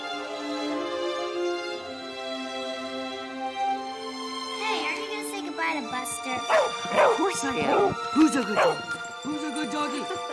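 A dog whines in a long, high, drawn-out tone, then breaks into a series of sharp barks and yips mixed with more whimpering over the last several seconds.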